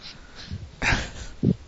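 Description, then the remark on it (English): A dog whines and huffs in short, breathy bursts, with a sharper snort-like sound and a low whimper, and no talking. “Yeah, the dog is so upset.”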